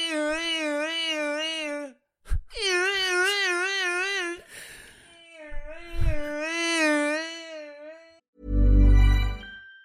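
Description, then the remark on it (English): A voice imitates a fire engine siren in three long, warbling wails whose pitch wobbles rapidly up and down, ending in a short, loud, blaring burst like a horn blast. “Dad, should we have a ringtone of the fire engine sound?”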